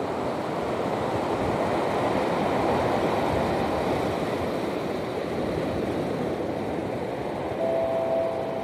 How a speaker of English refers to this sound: Marina Del Rey, California. I'm currently standing on the beach. I'm right at the shore as the water's coming in. It's quite a windy day, so you'll probably hear a lot of wind, but hopefully you can also hear the rhythm of the waves as they come in.